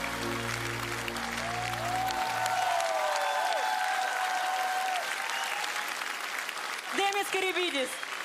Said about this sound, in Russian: Помогали в этом номере Демису несравненные … и …. Друзья, ваши аплодисменты.